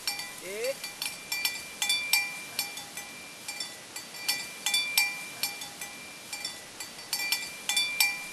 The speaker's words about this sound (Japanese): 数世紀にわたるマサイの伝統の一部だった牛を追う音は、まもなくただの記憶になるかもしれません